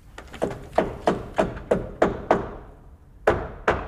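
Steady hammer blows strike at a brisk, even rhythm, sharp and ringing with a short decay, then stop for about a second before two more blows land. No voices are heard. The hammering is part of a makeover of the old CB2 Cafe site.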